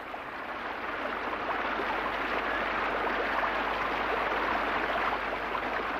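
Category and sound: nature, heavy pouring rain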